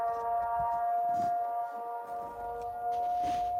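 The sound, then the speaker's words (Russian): A city civil defense warning siren holds a steady, sustained tone for the whole stretch, loud and continuous over faint outdoor background noise. “Это городская сирена.”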